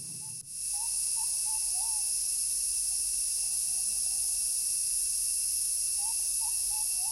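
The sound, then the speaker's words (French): Birds in a tropical forest call in short, repeated whistling phrases over a constant high-pitched drone of insects. No one speaks. “Des oiseaux, une forêt tropicale.”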